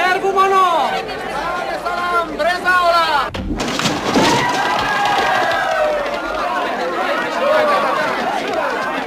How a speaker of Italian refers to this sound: Quando finalmente l'opera ottiene l'autorizzazione dalla censura e arriva il giorno della prima, la folla preme per entrare alla Scala già 6 ore prima dello spettacolo.